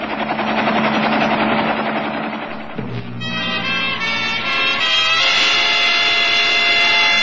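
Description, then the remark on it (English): A helicopter roars, its dense rotor and engine noise steady and loud throughout, shifting pitch slightly partway through as it keeps flying. No one speaks. “Take the helicopter away, Wilkins.”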